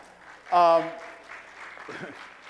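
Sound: audience clapping hands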